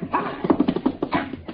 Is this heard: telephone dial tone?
no